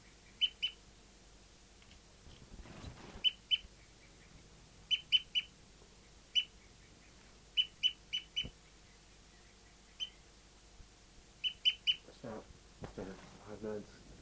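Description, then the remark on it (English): A bird, labelled bird 5-9, gives a tooping call: short, high, clipped notes in quick pairs and triplets, repeated at fairly regular intervals, with a few brief bursts of rustling noise between them. The bird is slowing its tooping and approaching other birds. “Slowing down tooping now and approaching the other birds.”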